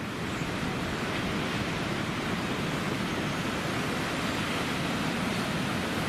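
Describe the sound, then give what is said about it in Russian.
Steady roar of ocean surf and wind at a shore where many surfers are out, a dense, continuous wash of noise that stays loud and even throughout, with no voices. “Ребята тут на волне, с ветерком.”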